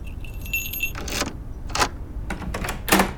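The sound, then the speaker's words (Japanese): Keys jangle at a front door lock in several bright, irregular metallic bursts, fairly loud, with no one speaking. “あれ、鍵かけ忘れたのかな。”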